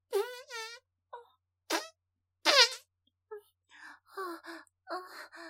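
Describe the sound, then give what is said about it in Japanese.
A few short, buzzy fart sounds with a wavering pitch come in separate bursts, caused by built-up stool, followed by breathy, murmured vocal noises. “うんちが溜まってるから、おならが出ちゃう。”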